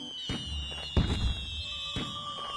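Three loud golden fireworks burst in the sky, popping and booming at irregular intervals, each with a deep rumbling tail, while a thin high whistle hangs steadily in the background. No voices are heard.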